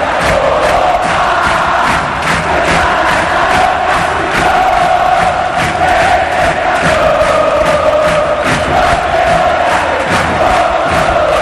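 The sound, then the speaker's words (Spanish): A football crowd of Cerro supporters roars and chants in unison, celebrating a Cerro goal that secures qualification for the round of 16: a loud, sustained wall of voices with a steady rhythmic pulse of shouts running through the whole stretch, no single voice standing out. “El público de Cerro estalla. Celebra con este grito.”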